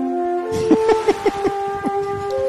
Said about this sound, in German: Haben wir da einen Jingle für, was man dann da hört? Ich guck mal. Ja. Haben wir was? Haben wir so einen Zug-Jingle, der... Ja, ich hab was. Okay, das hier.